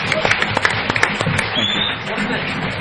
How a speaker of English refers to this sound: So should we give them a round of applause? Thank you all so much.